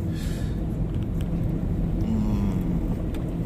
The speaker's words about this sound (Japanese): 千日に行きましょうってなってから車速が上がりましたね。